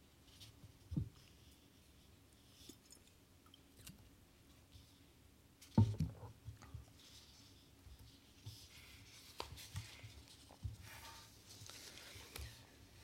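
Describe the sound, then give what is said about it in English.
Soft brushing and rustling with scratchy rubbing textures, played from loudspeakers in different directions, quiet overall, broken by a few sharper scrapes and taps at loose, uneven intervals, with no voices. “A meandering narrative voice and rhythmic noises of brushing, rustling, rubbing come from loudspeakers in different directions.”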